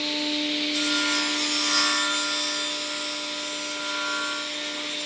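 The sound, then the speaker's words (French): Wood being worked in the Menuiserie de la Vallée joinery in Delémont, where a trainee is doing an internship, in the afternoon: a steady rubbing or sawing sound runs the whole time over a constant machine hum, with no one speaking. “a rencontré cet après-midi entre scie et planche de bois.”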